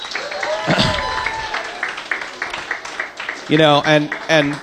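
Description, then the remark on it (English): An audience applauds in a steady wash of clapping for the support of Xbox Live Gold members and MVPs present for Xbox Live Arcade, while a man speaks over it briefly early on and again as the applause tapers off. “First off, to the Gold members and the MVPs that are here tonight, please, big round of applause for your support of Xbox Live Arcade.”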